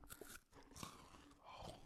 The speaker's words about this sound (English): But how did we make it sound like they be having all those microphones and they be crunching this stuff? I'd be like, ugh, it's too loud.